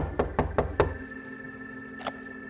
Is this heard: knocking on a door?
yes